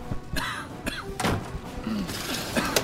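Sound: door slamming shut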